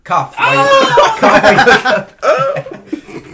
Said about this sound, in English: Cough.